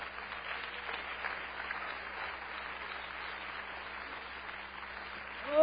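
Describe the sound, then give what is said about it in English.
A church audience in a sanctuary gives the Lord a hand clap, a steady, dense wash of applause that holds at an even level throughout, swelling louder right at the end. “Let's give the Lord a hand clap off.”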